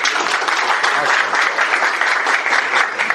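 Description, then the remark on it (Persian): Audience applause, the audience applauding themselves, a dense, steady wash of many hands clapping at once, loud, sustained without pause for a few seconds. “خودتون رو تشویق کنید.”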